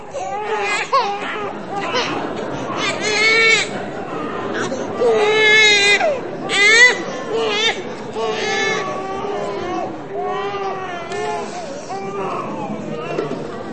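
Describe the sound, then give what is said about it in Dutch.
A baby cries loudly and persistently during a baptism, wailing in repeated rising and falling bursts, with faint murmuring of people underneath. “Misschien is het goed om dat gehuil toch heel positief in te vullen.”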